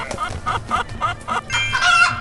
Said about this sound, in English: Alright. Alright, there's a chicken.